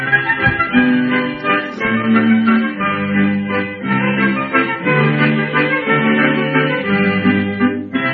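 An old sung song recording plays on its own, thin and muffled with no bright highs, carrying a steady, continuous melody of sustained notes at a fairly strong level.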